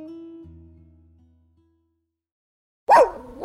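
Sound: dog barking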